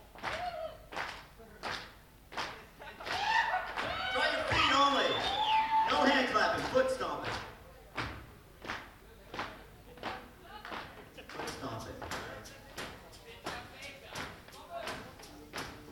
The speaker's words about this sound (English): For our feet, we're gonna try the feet. Let's get a little sexy stomp going. Right foot only, that's the sexiest foot. Let's see if we can hear it.